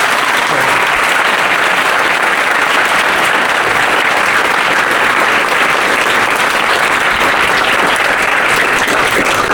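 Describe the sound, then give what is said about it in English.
A large crowd claps loudly and continuously right after chanting "Hari Bol" three times, a dense, sustained wash of applause that holds steady for the full stretch without any speech breaking through. “Followed by a massive round of applause.”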